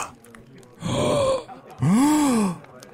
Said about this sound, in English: Why are we gasping?